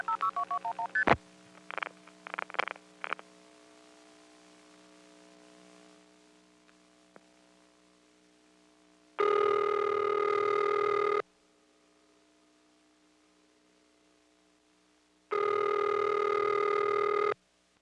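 A quick burst of telephone dialing tones as a number is dialed, then a hush on the line before two long, steady ringing tones sound several seconds apart, fairly loud.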